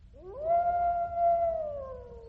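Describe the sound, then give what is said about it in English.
A single wolf howl from Mardian, a wolf man, swells upward, holds a long steady note, then slowly sags toward the end. It's clear over a faint low rumble, with no talking. “Alas, poor Mardian. Come nearer, poor wolf man.”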